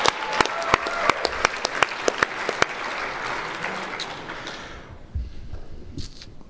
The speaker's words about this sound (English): Let's give all our speakers one more round of applause.